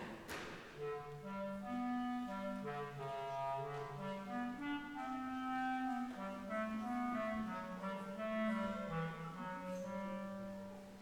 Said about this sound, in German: Alle Menschen und Tiere werden durch Instrumente des Orchesters dargestellt. Der Vogel durch die Flöte. Die Ente durch die Oboe. Die Katze durch die Soloklarinette.